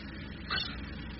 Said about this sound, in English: You hear it? There's a boat coming this way. A work boat for sure, too small to be a trawler. Most likely a lobster boat. There. Now you can see it. Coming out of the fog. Cutting across the rolling calm of the dark water. She's heading for the buoy.